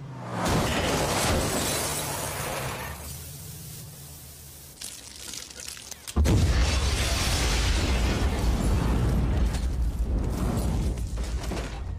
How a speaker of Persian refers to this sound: یه راننده معتاد در تعقیب و گریز با پلیس با سرعت پیچید و متاسفانه جلوی منزل دیوید ویلزبرو با یه خودروی پارک شده برخورد کرد و باعث انفجار شد.